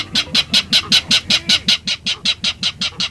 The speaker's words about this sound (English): In a salt marsh near San Francisco, a loud clatter erupts from the dense vegetation. These jolting notes, like a small engine cranking up, are the voice of a clapper rail.